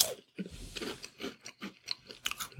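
Crisp crunching as someone chews a cracker, with a steady run of about eight or nine dry bites over a couple of seconds and no talking.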